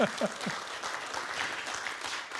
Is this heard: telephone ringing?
no